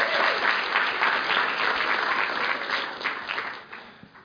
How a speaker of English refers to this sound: Just give it a round of applause.